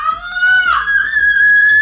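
A woman and her children scream during a fight: a shrill, high-pitched scream, held steadily for about two seconds and rising slightly partway through, loud, with no clear talking.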